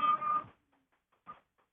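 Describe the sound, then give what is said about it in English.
A photocopy machine runs in a loud half-second burst of mechanical whirring with a steady mid-pitched hum, falls quiet, then gives one brief, softer clunk-like burst. “Sounds like a photocopy machine.”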